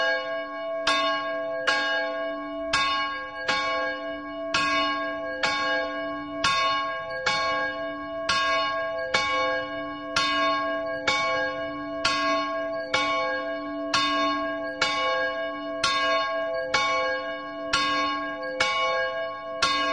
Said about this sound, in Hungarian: A délidőben megszólaló 173 kilós harangot Ducsák István mester öntötte Őrszent Miklóson 1965-ben.